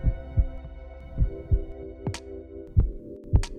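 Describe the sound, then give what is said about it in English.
A human heartbeat pulses in steady lub-dub pairs of deep, muffled thumps, clear, over a faint continuous hum, with no voices present. “So my heartbeat is like this internal metronome, keeping the beat inside of me.”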